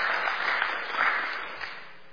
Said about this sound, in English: So give them a big round of applause.